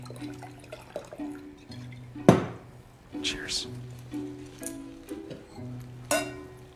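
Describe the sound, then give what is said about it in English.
Two sharp glass clinks ring out a few seconds apart, bright, over a low murmur of voices and a steady background hum, like glasses touched together in a toast. “Cheers.”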